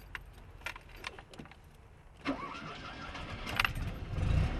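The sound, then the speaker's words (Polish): The engine of a small Fiat 126p (Maluch) car is started: keys jangle, the starter cranks briefly, and the motor catches into a steady, low idle that grows slightly louder toward the end. No one speaks. “Rozumiem, że odpalić możemy?”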